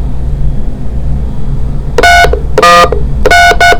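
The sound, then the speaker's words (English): Low background rumble, then a quick run of four or five bright telephone keypad tones, each a short steady beep pressed one after another to enter the 5-digit zip code 31337 at an automated phone prompt. “Press 1 if this is correct, or please enter your 5-digit zip code.”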